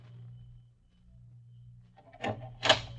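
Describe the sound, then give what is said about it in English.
A low, steady hum fills the quiet at about 4:30 a.m., then near the end the door of a one-room tin shack in a city dump is handled: two fairly loud rattling clunks, about half a second apart. “What are you doing at that door?”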